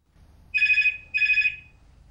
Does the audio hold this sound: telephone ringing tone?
yes